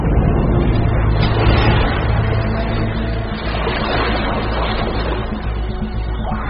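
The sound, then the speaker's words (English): A loud, sustained rush of churning water surges and washes over an ice floe, a powerful wave meant to knock a Weddell seal into the water; a dense roaring wash that holds steady for several seconds with a deep rumble underneath and no voices. “This time, they unleash a far more powerful wave, and with astonishing accuracy.”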